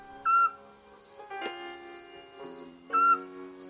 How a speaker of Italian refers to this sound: Di nuovo la civetta. Il pianto dell'assiolo.